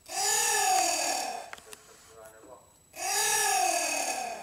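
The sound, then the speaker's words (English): A baby giant anteater gives two long, loud, harsh squawking calls with a wavering pitch, separated by a quieter pause containing faint clicks and shuffling. “It is a baby giant anteater.”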